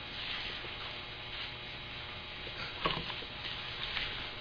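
Faint, scattered rustling of book pages being turned, soft papery swishes over a steady low hum, with one slightly sharper flutter partway through. No one speaks.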